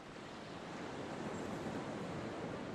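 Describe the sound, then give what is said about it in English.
Soft, steady surf washing gently onto a sandy shore at night, a continuous broad hiss of small waves breaking and drawing back, fairly quiet with no voices. “There are little ripples of phosphorescence on the sand where the water softly breaks and withdraws.”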